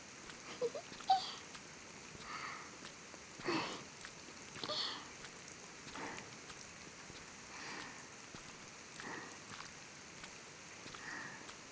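rain falling

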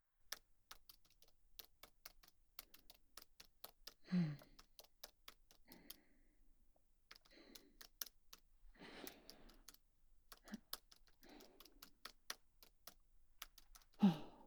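computer keyboard typing clatter

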